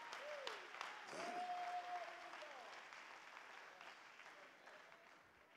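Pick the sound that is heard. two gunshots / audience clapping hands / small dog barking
audience clapping hands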